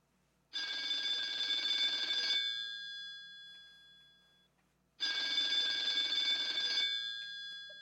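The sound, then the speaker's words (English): A telephone bell rings twice in long bursts, each about two seconds of bright metallic trilling followed by a pause with a faint lingering tone. Loud, with no voices. “That phone call.”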